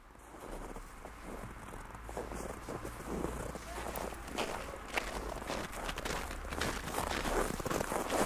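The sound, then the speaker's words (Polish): Quick, steady footsteps of a man running to catch up with someone along an empty housing-estate street in the evening, continuous, with a low rumble and light wind noise beneath them. “Proszę zaczekać. Czemu pan biegnie?”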